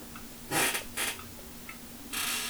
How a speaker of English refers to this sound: Ah, the squeaky chair. See, you guys always know when I'm leaning forward to grab the beer bottle and have another drink, because you'll hear that chair squeaking.